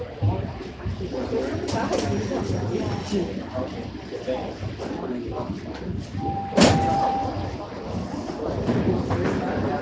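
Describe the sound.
Subway train doors slide open at Davisville Station, on the right side, over a steady rumble of train noise, with a sharp clunk and a brief tone partway through and indistinct voices murmuring.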